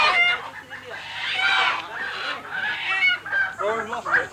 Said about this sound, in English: What's happened is the Komodo dragon has just attacked one of our chickens. It's got one in its claws at the moment.